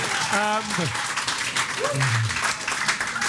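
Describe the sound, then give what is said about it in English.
Steady, dense audience applause for rugby players James Haskell and Mike Tindall fills the whole stretch, with a couple of voices calling out over the clapping. “Before we do anything else, could we also have an enormous, as the picture falls off the wall, an enormous round of applause for our two superstars here, Mr.”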